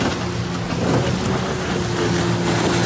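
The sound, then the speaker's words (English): A motorboat engine drones steadily as the boat circles around another boat and then drives up onto its back, recorded on a phone, its low hum running under a constant wash of water and wind noise, with no voices. “Listen to the boat circle around the first time, and the second time it drives right up the back of the boat.”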